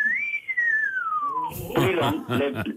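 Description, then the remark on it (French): A person whistles at women: one long, clear whistle that rises briefly and then slides steadily downward, followed immediately by voices talking and laughing. “Mais vous sifflez, je les siffle pour les Mais alors, ça donne quoi? Ça donne quoi quand vous sifflez?”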